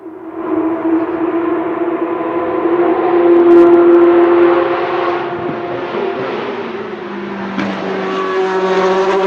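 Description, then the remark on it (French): A car engine hums steadily with a clear harmonic tone, rising slightly in pitch as it accelerates, then shifting gears and settling into a new droning note. Loud, no talking. “La voiture.”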